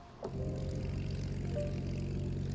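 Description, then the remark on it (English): A Second World War propeller fighter plane's piston engine drones steadily, a deep, rumbling, evenly pulsing roar that swells in at the start and holds constant, with no voices. “These are the planes that saved Britain and Europe in its darkest hour.”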